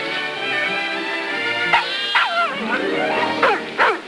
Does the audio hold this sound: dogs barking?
yes